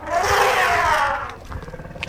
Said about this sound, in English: Elephant, that's right, sweetie. Oh my gosh, look how big the elephant is.